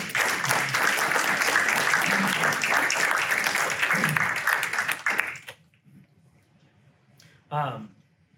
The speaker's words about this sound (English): First of all, can we give a round of applause for that?